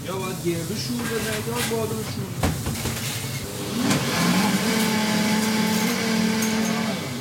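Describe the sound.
An electric blender whirs steadily, its motor hum rising and growing louder partway through, then holding a strong, even drone, with faint voices in the background.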